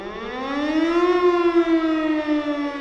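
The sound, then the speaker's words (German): A civil-defense disaster siren wails steadily, sounding a disaster alarm in Oberrotenbach on 12 April 1961, its rich harmonic tone climbing in pitch over the first second and then holding a loud, sustained drone, with no voices present. “Katastrophenalarm in Oberrotenbach.”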